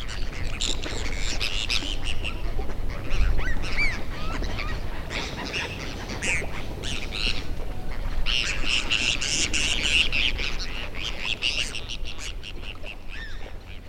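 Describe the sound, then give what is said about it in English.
A large flock of gulls on their spring migration north calls continuously off Highway 12 in southern Arkansas, harsh overlapping squawks and cries piling on top of one another, fairly loud, with no pause for the whole stretch. “The gulls have started their big push back north.”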